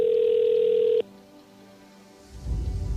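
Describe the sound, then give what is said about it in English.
A loud, steady electronic phone ring tone sounds once for about a second and cuts off abruptly, followed by a quiet pause and then a swelling rush of low, rumbling noise. “The phone tends to ring.”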